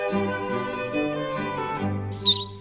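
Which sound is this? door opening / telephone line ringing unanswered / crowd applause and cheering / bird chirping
bird chirping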